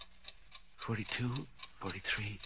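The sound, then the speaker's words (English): A clock ticks steadily in a quick, even rhythm, its crisp clicks fairly faint beneath a muffled voice speaking over it. “The clock's beginning to look like people, like Mama.”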